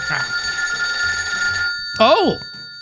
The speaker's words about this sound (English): Oh, the telephone's ringing. I'm pretty sure I asked management to stop the phone from ringing here in the studio, because when the phone rings in the studio, it can only mean one person is calling.